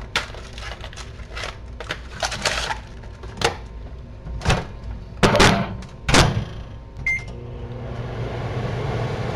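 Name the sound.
microwave oven running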